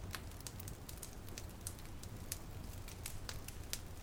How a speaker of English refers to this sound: Watching and listening to the fire hum and crackle away.